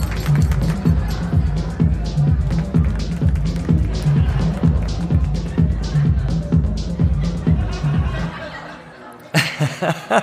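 An audience claps in a steady, rhythmic beat over a low, pulsing backdrop for about eight seconds before the clapping stops and a brief burst of other noise follows.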